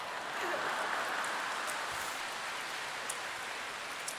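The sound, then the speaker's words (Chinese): An audience applauds continuously, a dense, steady wash of many hands clapping that holds at an even level for about four seconds, with no voices over it. “好啦，你们不要鼓掌，你们以为我说你们呢？”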